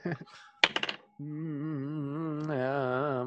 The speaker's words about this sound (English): I will need you to give me a charisma roll. Okay. That's right. I'm having you roll dice. This dice rolling also comes out of nowhere.